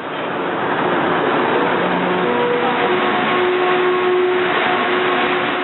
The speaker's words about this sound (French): Tout le monde connaît la fameuse mélodie de trois notes du métro de Montréal qu'on entend lorsque le train quitte une station.